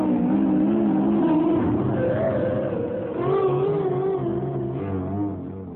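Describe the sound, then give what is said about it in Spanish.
A car engine is started for a driving test and runs loud, revving in waves so its whining pitch rises and falls repeatedly for several seconds before easing slightly at the end. “Arranque, ponga el coche, encienda el coche y arranque.”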